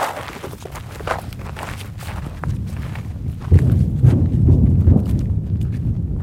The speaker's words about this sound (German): Um einen Eindruck zu bekommen, wie sich dieser Krieg anhört und wie er aussieht, muss man erst einmal marschieren. Es geht über dorniges Gestrüpp auf einen Hügel. Zum Grenzzaun nach Gaza ist es Luftlinie nicht einmal ein Kilometer.